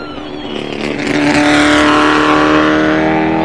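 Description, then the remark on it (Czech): An Opel car engine drives along Cuban roads, loud, its droning, harmonic hum building in intensity over the first second and then holding steady. No one speaks. “Slyšíte ten svobodný zvuk motoru? Cítíte, s jakou emigrací brázdí tento automobil značky Opel kubánské silnice?”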